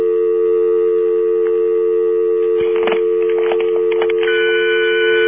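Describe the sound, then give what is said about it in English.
A steady telephone dial tone hums on a phone line, then a short cluster of brief keypad tones and clicks, a 9 being fed down the line, cuts in partway through. No one speaks. “Feed a 9 down the line.”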